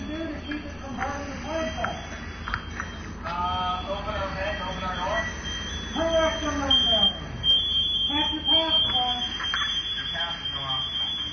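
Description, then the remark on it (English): A firefighter's PASS alarm, which goes off when a firefighter has not moved for 30 seconds, sounds a shrill, high-pitched electronic tone that keeps going throughout, with muffled voices and movement underneath. “That beep you're hearing is from what they call a pass alarm. It goes off whenever a firefighter doesn't move for 30 seconds.”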